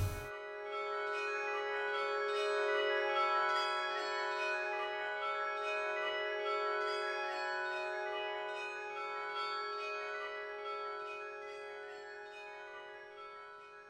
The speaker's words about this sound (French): Entendre et ressentir ce que disent les cloches de Fort-Calquier et de Saint-Étienne-les-Orgues